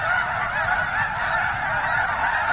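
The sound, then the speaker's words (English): A dense chorus of honking geese and other migrating waterfowl calling continuously during their late-winter stopover at Nebraska's rainwater basins, a loud, overlapping din from a large flock with no gaps, all at once throughout. “He says it's an amazing thing to witness those birds during their stopover.”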